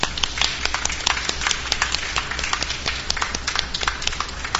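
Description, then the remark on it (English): A crowd of people clapping their hands together for the Lord, a dense, uneven patter of many overlapping claps that holds steady at a moderate level for several seconds, with no voices. “Let's give the Lord a little a hand clap, all right? Let's clap for him.”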